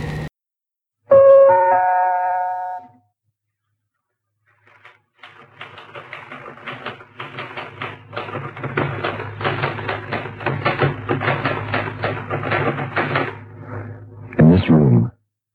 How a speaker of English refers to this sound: Typewriter keys is like knuckles on wood, and my perspiration falls down upon the keys that are being punched by my trembling fingers.